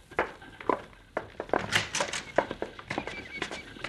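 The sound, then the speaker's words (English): Horses' hooves clop along in an irregular, steady clatter of sharp knocks, several horses, one a stallion ridden by the Cisco Kid, walking and drawing nearer, with no voices over them. “Yeah, there's somebody coming in here, boss.”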